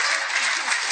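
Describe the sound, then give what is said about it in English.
A crowd applauds, a dense, steady wash of many hands clapping at once with no single claps standing out, holding an even loudness throughout. “Give her a hand.”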